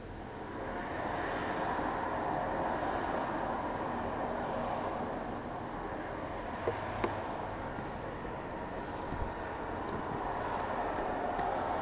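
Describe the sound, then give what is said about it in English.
Steady low rumble of traffic outside a building, with a broad, continuous roar that holds level throughout, broken only by a couple of faint brief clicks; no voices. “That's traffic noise outside this building.”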